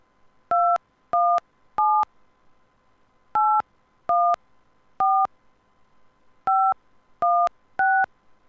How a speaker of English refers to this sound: Please enter your home phone number beginning with the area code.